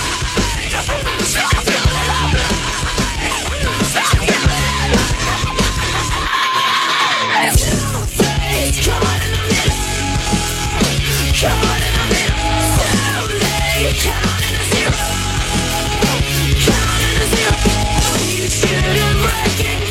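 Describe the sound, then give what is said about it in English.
A person yells loudly and almost without pause, a harsh, strained voice riding over a dense, driving wall of noise that stays intense for the whole stretch. “I can't hear myself think. Stop yelling at me!”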